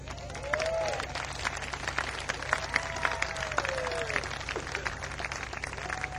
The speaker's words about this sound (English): I'll take that as being applause for my guts in doing that.